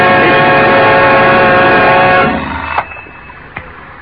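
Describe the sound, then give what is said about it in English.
An alarm clock rings loudly and steadily for about two seconds, a dense metallic jangle, then cuts off abruptly, followed by a couple of faint clicks in near silence. “Turn it off, will you? Turn. The alarm.”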